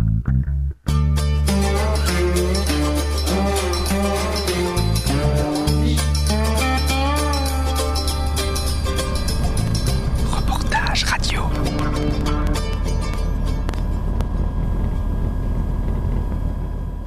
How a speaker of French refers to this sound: j'adore, hein, allumer le micro dans l'avion. Petite séquence ambiance